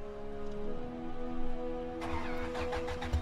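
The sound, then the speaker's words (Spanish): The engine of a manual-transmission car, put in gear with a cap wedged in its fuel regulator for a California Highway Patrol experiment, cranks and catches, its steady mechanical hum jumping into a rougher, louder churning roar about two seconds in. Fairly loud, with no voices. “Puso una velocidad y prendió el motor.”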